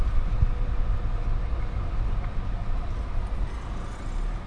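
Another car approaches on a narrow road with no guardrail; its low, steady engine and road rumble fill the whole stretch, a dense, even drone with no voices over it.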